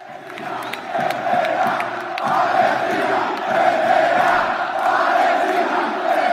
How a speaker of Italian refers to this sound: Al termine della semifinale casalinga contro lo Strasburgo, i tifosi del Rayo Vallecano, i Bucaneros, hanno scelto di festeggiare la vittoria con una bandiera palestinese stesa sul prato e con un coro che ha ripetuto «Palestina vincerà».